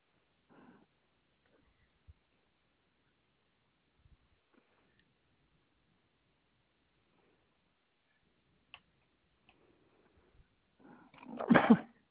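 A single sharp sneeze bursts out near the end after a long stretch of near silence with a few faint clicks and breaths, loud.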